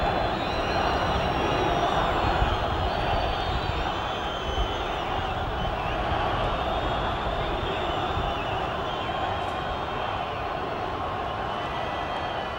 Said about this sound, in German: Aber hören Sie selber noch mal in diesen unbeschreiblichen Jubel hinein.